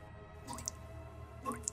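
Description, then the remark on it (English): Two soft drips of liquid, about a second apart, each a quick upward-bending plop followed by a bright tick, faint against a low steady hum with no voices. “The sound of dripping cut through the silence of the room, startling me.”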